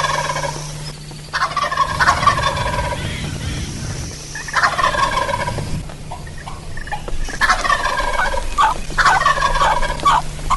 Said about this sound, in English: This gobbler's not 50, 60 yards from me in the tree, and I got a big tree in front of me.